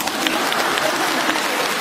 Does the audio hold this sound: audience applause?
yes